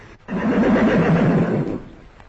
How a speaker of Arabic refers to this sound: الله، خيل إلي أني سمعت صوت حصان يصهل. حصان يصل، إنها أوهامي أحلامي، وإلا فكيف يأتي الحصان وليس هنا أي إنسان؟ يا ربي إنه حصان، حصان